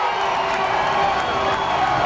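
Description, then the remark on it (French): A hockey arena crowd roars and cheers, a loud, dense wash of many voices that holds steady for about two seconds with shouts and whoops mixed in. “Et puis soudain, la foule s'emporte.”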